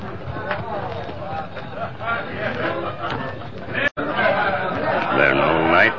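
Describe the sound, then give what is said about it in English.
A dense, steady hubbub of many overlapping voices chattering at once inside a cafe, with no single speaker standing out; the crowd noise briefly cuts out, then resumes louder. “Sound like many feller in cafe.”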